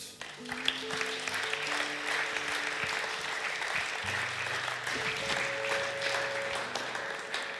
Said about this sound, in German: Das ist dein Applaus.